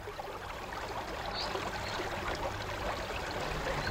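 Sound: river stream flowing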